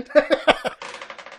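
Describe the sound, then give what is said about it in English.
A few quick voiced syllables give way to a dense, steady clatter, like dice being rattled and rolled, a busy bright rattling that carries on for about half a second. “Roll again.”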